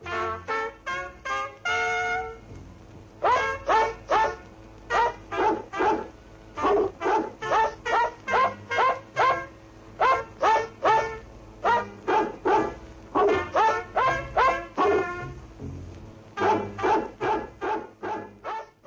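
Dogs housed in a hotel bark loudly in rapid, repeated bursts, the volleys running almost without pause for the whole stretch, with no voices over them.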